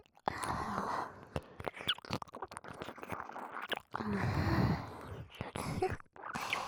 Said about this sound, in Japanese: こうやって吐息たっぷりに舐められるのがいいんですよね。